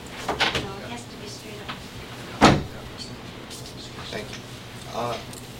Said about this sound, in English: could you unlock the door, please? It is unlocked. Well, no, she is there. She wasn't able to get in, so there's something wrong.